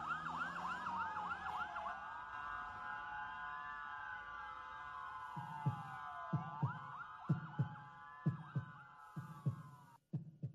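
A wailing emergency siren rises and falls, then a steady heartbeat of deep paired thumps joins beneath it, growing louder and more prominent until the siren cuts off.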